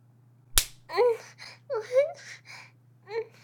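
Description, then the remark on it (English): One sharp slap on a person's skin cracks out, then a voice lets out whimpering, babbling cries over a low steady hum. “Why'd you fucking slap me like that?”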